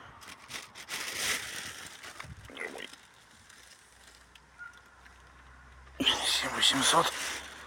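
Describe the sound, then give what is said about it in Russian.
Crinkly rustling of a plastic bag holding freshly picked chanterelle mushrooms comes in two bursts, a longer one early on and a louder crackling handling near the end, with a quiet lull between, as the heavy bag is lifted one-handed to be shown. “Один пакетик.”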